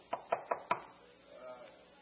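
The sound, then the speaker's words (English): Four firm, evenly spaced knocks on a door, quick, followed by a faint murmur of room sound. “Who at my door is standing, patiently calling me?”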